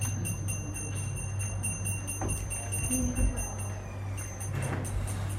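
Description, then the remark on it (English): A pujari's small ritual hand bell, rung during Krishna worship, rings rapidly and steadily, its bright metallic tinkle repeating in a quick rhythm over a low background hum, then pausing and briefly resuming. “Pujari, we are competing with your bell.”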